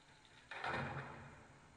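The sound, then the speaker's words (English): A single heavy prison door in a video game opens suddenly with a loud grinding whoosh and low rumble, then slowly fades out over about a second, as prison doors are opened during a jail escape. No one speaks. “Okay, so the next part involves opening a load of prison doors and taking out robots along the way.”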